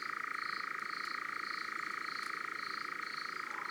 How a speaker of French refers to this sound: Si on se lève tôt et qu'on va dans les bois avant le lever du jour, on entendra peut-être l'étrange chant de l'engoulevent.